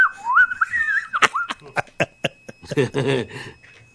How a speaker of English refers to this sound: There's like a weird type of an alarm or whistling something going on in the studio, and we can't figure it out.